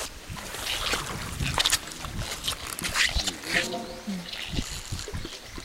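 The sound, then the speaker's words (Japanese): Wooden oars creak and squeak in short rhythmic strokes as a raft is rowed down a river in Kitayama village, Wakayama Prefecture, Japan, with water splashing and rushing and faint voices in the background. “やっぱりの貝をこう漕ぐね、 漕ぐ、キュッキュッというような音、ね、”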